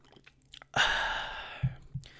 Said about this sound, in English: Pardon me while I have a sip of my pomegranate gin.